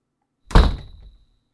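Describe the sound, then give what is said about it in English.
A door swings shut with a single solid thunk, fairly loud, its low rumble fading over about half a second amid quiet. “Shut the door, would you?”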